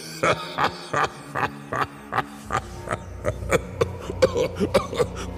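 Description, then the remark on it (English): A long, rapid run of harsh coughs in a steady rhythm, well over a dozen bursts, growing denser and a bit louder toward the end, with no talking. “Excuse me, I'm having a bit of a coughing fit.”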